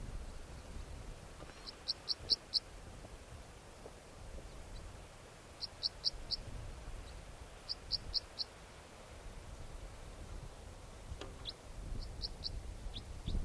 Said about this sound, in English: There goes a bird, type 4 calls, going over towards the decoys.